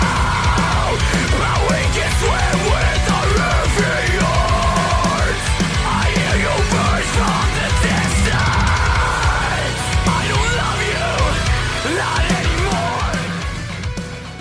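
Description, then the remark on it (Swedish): A loud, harsh human spring scream held at full force for about fourteen seconds, raw and strained, fading slightly only at the very end. “Håll för öronen nu, för nu kommer mitt vårskrik.”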